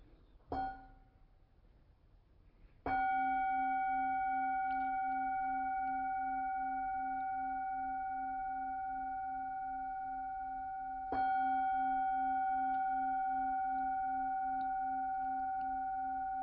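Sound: meditation bells ringing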